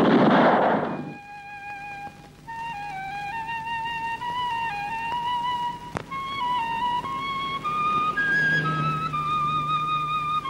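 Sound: revolver gunshot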